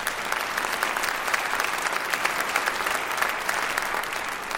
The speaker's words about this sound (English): Yeah, let's clap.